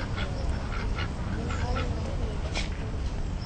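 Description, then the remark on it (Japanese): Domestic ducks and wild ducks quack in scattered bursts over a steady outdoor murmur on a hot September day, the calls overlapping, with a faint voice in the background. “アヒルとカモだ。”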